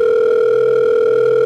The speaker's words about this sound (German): Das Telefon klingelte. Sie warteten. Das Telefon klingelte nochmal. Am anderen Ende der Leitung nahm jemand ab.